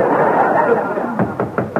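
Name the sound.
knocking on a door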